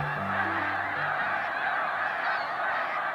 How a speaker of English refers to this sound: These snow geese are resting on the surface of the water.